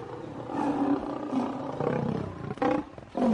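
A starved lion released into an arena roars loudly while angrily shaking its head, a long deep rumbling growl that swells and holds, followed by two shorter, sharper roaring bursts near the end.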